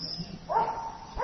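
A dog lets out a drawn-out, high yelping bark, then starts a second short one a moment later; moderately loud, with no one talking.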